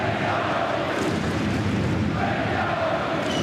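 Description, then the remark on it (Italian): A large crowd in the stands at the Gottardo Arena whistles and jeers at the home side Ambrì-Piotta after a defeat by Bern, a dense, steady roar of disapproval that stays loud and unbroken throughout, with faint sustained tones running through the noise. “Fischi dalle tribune.”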